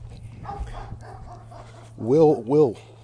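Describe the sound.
A dog lets out two loud barks in quick succession near the end, following a stretch of quiet, murmured talking in the background.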